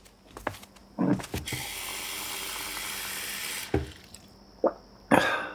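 A few sharp clinks and knocks, then a faucet runs steadily for about two seconds as a glass is filled, followed by more scattered clatters, as a parent walks across a toy-filled living room for a glass of water. No one speaks.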